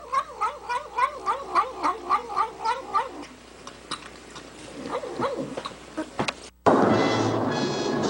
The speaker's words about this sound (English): That cat was not harmed in any way. If anything, it was adorable to death.